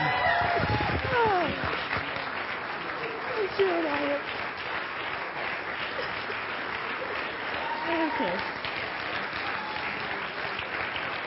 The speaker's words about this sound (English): He's something else. But all of those clapping now, he's going to be counting against my 10 minutes. So I better be rushed.